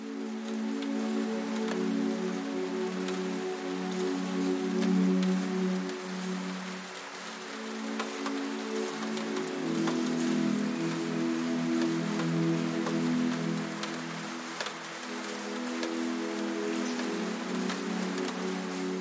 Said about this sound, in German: Der Regen draußen hat sich vielleicht ein wenig verstärkt, aber das Geräusch bleibt immer noch sanft und beruhigend.